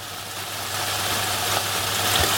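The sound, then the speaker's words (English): Chicken frying in hot oil makes a steady, dense sizzle, a continuous bright hiss dotted with faint pops and crackles over a low, even hum. It is a KFC fried chicken recording made with Hatch as white noise for a sleep sound machine. No one speaks. “So KMC teamed up with Hatch to create like the white noise sound, and they think it's awesome.”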